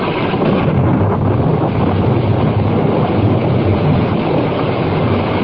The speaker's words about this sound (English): Rain. Oh, gentle rain. The drought is ended.